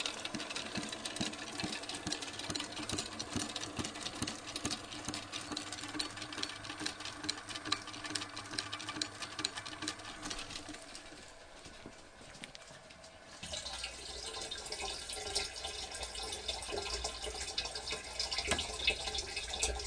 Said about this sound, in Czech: Takový zvuk vydává malé pístové, přesněji plungerové čerpadlo na pitnou vodu. Jeho velkou výhodou je, že dává přesně odměřené množství. Výhoda je i v tom, že mu stačí k pohonu velmi malý výkon.